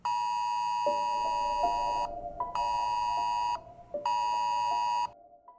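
An Amber Alert emergency alert tone blares in three long, harsh electronic bursts separated by brief pauses, loud, with no voices present.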